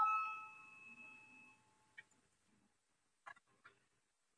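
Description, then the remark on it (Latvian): A single parliamentary voting bell chime, rung to call a vote on a committee's proposal, rings out with a bright, tonal ring that fades over about a second and a half, followed by a few faint scattered clicks. “Paldies, lūdzu, zvanu, balsosim par 18. atbildīgās komisijas iesniegto priekšlikumu, lūdzu, balsosim.”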